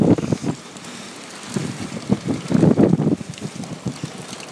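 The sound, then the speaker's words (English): A strong wind gust buffets an umbrella, producing low rumbling bursts and flapping over a steady hiss of falling rain, outdoors on a small residential street approaching a main road. “There's a good wind gust right there.”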